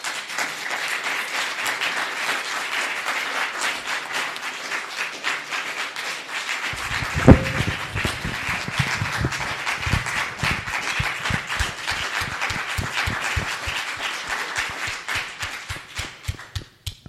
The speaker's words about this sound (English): I feel the applause went on for longer than expected and not long enough.